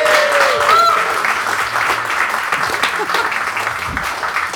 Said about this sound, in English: This is our first live show. Give yourselves a big round of applause for your first audience.